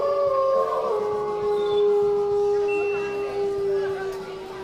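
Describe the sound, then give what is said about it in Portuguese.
A long, sustained wolf howl at a party with a barbecue and a pool, holding a steady, fairly low pitch with bright overtones, carrying on for several seconds over a low rumbling background and fading slightly at the end. “Como é que tem um lobo aqui?”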